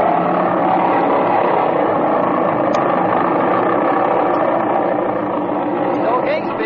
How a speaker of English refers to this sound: Set your brakes, rev the engine up, see that it's hitting on both mags, and if it is, take her off.